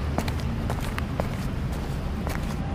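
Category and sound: human body sound, footsteps walking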